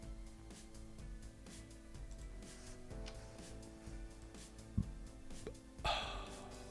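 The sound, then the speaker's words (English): A short, abrupt burp breaks out near the end, a single brief belch over a steady low hum in the background, with no talking. “Did a burp then.”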